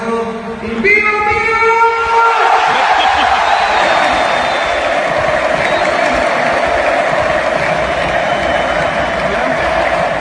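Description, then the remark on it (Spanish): A stadium crowd of about 10,000 people roars and cheers in a dense, steady wall of noise at the presentation of a new player for UD Las Palmas. Some brief tonal calls ring out at the very start before the sustained cheering fills the space. “Es el sonido de 10.000 personas en la presentación de Gesé.”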